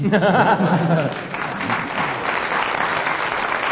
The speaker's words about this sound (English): Well, thank you for clapping anyway.